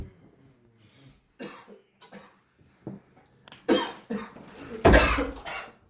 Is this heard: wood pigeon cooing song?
no